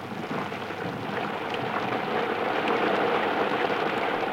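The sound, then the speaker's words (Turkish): Steady rain pours down in a dense, continuous hiss, growing slightly heavier as it goes, with a faint low rumble underneath and no voices. “Yağmur hızlandı.”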